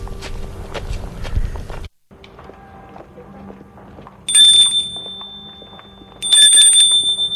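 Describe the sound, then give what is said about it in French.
Two children's steady footsteps climb the front steps of a house, then the front doorbell rings out twice with a bright, high, sustained chime while the footsteps continue softly beneath. “Les deux enfants montent le perron pour sonner à la porte d'entrée.”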